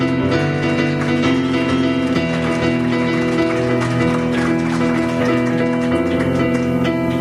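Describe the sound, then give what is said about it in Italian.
Steady crowd applause, a dense crackle of many hands clapping, runs through the whole stretch over sustained, held musical notes that shift pitch a couple of times. “un applauso.”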